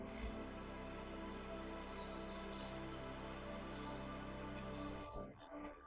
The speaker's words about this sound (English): The rustling of the wind in the leaves and the field of birds accompany your walk.